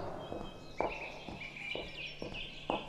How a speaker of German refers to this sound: Hörst du das auch? Das sind doch Vogelstimmen.